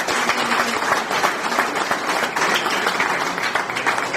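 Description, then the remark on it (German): Steady audience applause fills the whole stretch, a dense, even wash of many hands clapping at a consistently loud level with no voices standing out. “Ja, herzlichen Dank. Euer Applaus.”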